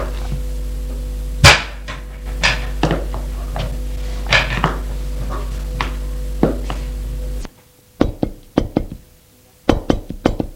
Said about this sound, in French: On la frappa à la porte.